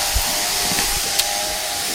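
Electric clippers shearing a sheep: a steady, hissing mechanical buzz with a constant whine, holding at an even level throughout, with a couple of brief clicks and no voices.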